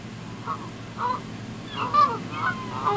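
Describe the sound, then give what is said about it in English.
A series of loud, nasal Canada goose honks repeat in quick irregular bursts, with a few overlapping calls, over a low steady rumble of background noise. “You're talking about Canadian. Yeah. We're in North America in this premise. Okay. Here, this is what they sound like.”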